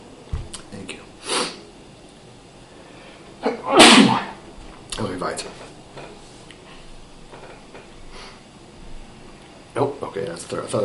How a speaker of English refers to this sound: Sorry, one second. About to sneeze. Oy.